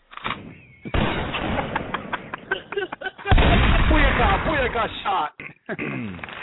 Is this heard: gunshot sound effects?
yes